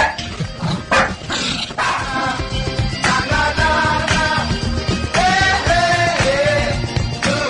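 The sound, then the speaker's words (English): A dog named Peanut barks and yips goodbye several times in short, high-pitched bursts, with a few whiny notes, over a steady bed of loud music with no talking. “Say goodbye, Peanut.”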